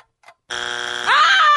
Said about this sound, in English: Ah! Woo! Oh, right in the heart. It's kind of loud today, the buzzer.